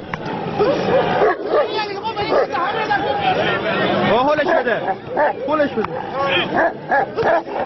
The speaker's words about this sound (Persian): در این نبرد خونین صاحبان دو سگ با نواخته شدن سوت مسابقه حیوانات را به جان هم می‌اندازند و با تحریک کردن آنها در نهایت صحنه دلخراشی شکل می‌گیرد که خبرگزاری تسنیم آن را به یک فیلم سینمایی تشبیه کرده است.